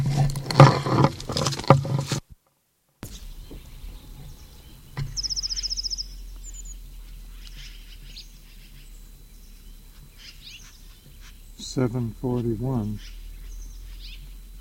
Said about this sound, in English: This is the Moline Gate bird, or at least below the transverse roadway. Bird startled on the old county road, 7:28.